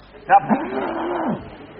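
A single drawn-out sheep-like bleat, close and fairly loud, sliding down in pitch over about a second, as if a person is imitating a sheep.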